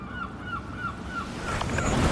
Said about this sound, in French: J'entends les mouettes et les goélands.